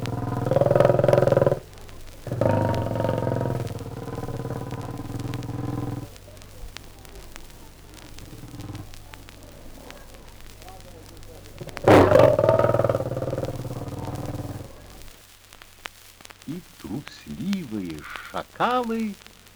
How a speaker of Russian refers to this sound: Лапой и покрыв трамвайный звон, городских собак пугает лев рычанием перед сном.